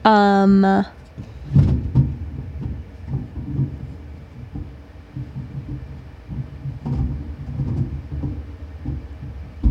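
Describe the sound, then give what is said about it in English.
A brief squeak, then drawers are opened and rummaged through, with a few louder clunks and a steady clatter of shifting objects. “Yes, I'm looking in drawers.”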